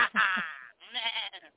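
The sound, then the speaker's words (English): A goat screams twice in loud, harsh, quavering bleats: a long wavering cry followed by a slightly shorter one after a brief pause, alone. “And then my lower jaw extracted and I screamed like a goat.”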